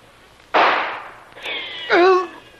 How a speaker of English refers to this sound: a surprise is waiting for them in the shape of a volley of gunfire from the guards. Two of Jim's group are killed, and a third has just been wounded.